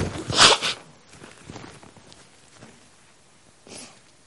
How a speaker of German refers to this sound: Entschuldigung, ich muss mir mal eben die Nase putzen.